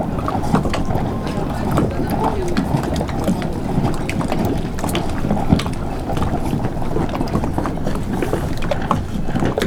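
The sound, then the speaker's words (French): Steady wind blows across open salt water between the Bages and Doul lagoons, with a low rumble and gusty buffeting on the microphone, plus faint lapping and splashing throughout, continuous and fairly loud. “Du vent, de l'eau salée.”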